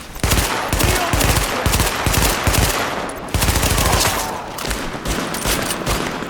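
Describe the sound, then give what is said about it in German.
Loud, rapid machine gun fire in the video game Tom Clancy's The Division, opened on hooded hostage-takers blocking a hospital entrance, in dense, rattling bursts, with brief pauses between volleys and a sustained crackling tail, no voices. “Wir haben gelernt, nicht mehr zu zögern und eröffnen das Feuer.”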